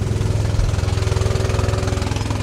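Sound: race car engine revving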